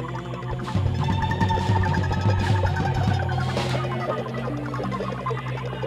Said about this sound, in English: We're gonna meditate together. Everybody just feel that bass. Where is it? Where is it coming from?